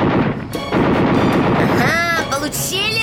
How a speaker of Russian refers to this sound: Смотрите, слева от нас другой! И справа! Это немцы! Атакуют наш бомбардировщик! Пулеметчику приготовимся! Огонь! Еще один слева! Вижу, готовься! Огонь!